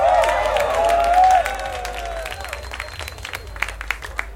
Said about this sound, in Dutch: Maar eigenlijk jij. Dat op zichzelf verdient een applaus.